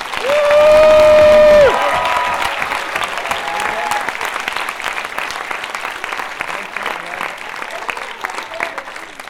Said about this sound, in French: Ces dames sont aussi mes amies. Applaudissons